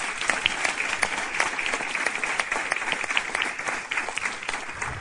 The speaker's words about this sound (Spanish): Y bueno, quiero dar las gracias por vuestro trabajo y vamos a darles un aplauso, digamos, de motivación. Aleluya.